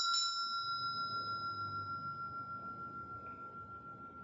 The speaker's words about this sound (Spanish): Vas a escuchar de nuevo la campanilla. Cuando termine el sonido de la campanilla, te vas a trasladar a tu lugar ideal de descanso.